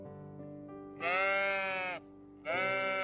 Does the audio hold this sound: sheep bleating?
yes